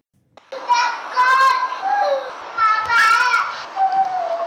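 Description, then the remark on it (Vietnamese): A young child cries and pleads in high, wavering wails and broken sobs, fairly loud, continuing for several seconds with only brief catches of breath, while being beaten by a relative. “Lời van xin cùng tiếng khóc thảm thiết của một đứa trẻ ngây thơ vô tội khi bị chính người thân hành hạ đánh đập.”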